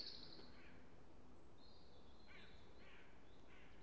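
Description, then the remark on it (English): Faint, high bird calls and chirps from birds in the surrounding trees, repeating every second or so over a soft, steady outdoor hush beside a display of daffodils. No voices are heard. “And with the sounds of the birds in the surrounding trees and the peace from being the only person here, I think I'm just going to stand and revel in this beauty for a little while longer.”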